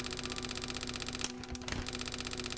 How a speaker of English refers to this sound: Teletypes, also known as teleprinters, were typewriters that they'd used to send out messages over non-switched telephone circuits, the public telephone network, to printers at the receiving agency.